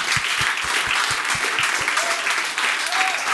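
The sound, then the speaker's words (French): A crowd applauds loudly and steadily throughout, a dense wash of clapping with rhythmic low thumps during the first half and a couple of brief high whistles near the end. “J'aimerais ça qu'on donne une bonne main d'applaudissement à Pierre-Luc Pomerleau et Mathieu Pepper.”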